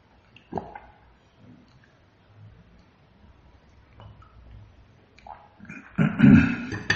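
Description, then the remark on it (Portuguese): Someone drinks water: faint sips and swallowing noises with scattered soft clicks, ending in a louder, brief clatter as the drink finishes. No one speaks. “Deixa eu tomar água, peraí.”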